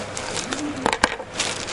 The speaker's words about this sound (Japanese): ちょっと失礼しますね。ちょっとあらら、ペンが落ちちゃった。